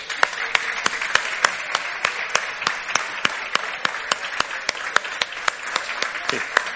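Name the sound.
applause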